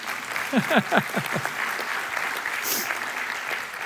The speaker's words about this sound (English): You can clap on that. That's good.